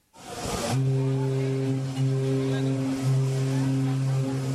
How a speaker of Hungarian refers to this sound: Egy hatalmas konténerszállítót vontatnak be a hullámvasútszerű pályán közlekedő elektromos mozdonyok az egyik zsilibbe a Panama csatornán.